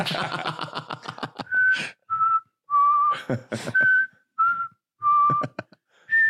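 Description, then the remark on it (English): Someone imitates a recorder with their mouth, producing a short tune of about eight breathy, pure, whistle-like notes at a steady mid-high pitch, with brief gaps between them and some noisy breath bursts at the start. “The curtain just playing perfect recorder sounds.”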